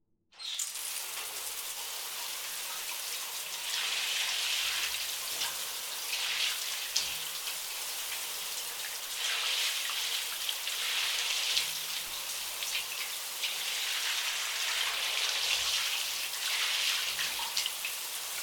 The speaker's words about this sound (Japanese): じゃあシャワーで泡を流していくね。